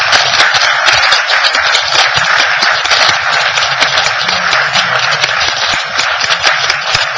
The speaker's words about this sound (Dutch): Wij dachten dat het heel aardig was om daar even bij stil te staan en u een bloemetje te overhandigen voor het fantastische werk wat u gedaan hebt. Applaus.